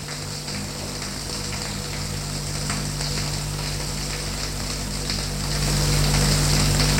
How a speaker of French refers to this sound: Ensuite, il prend sa douche.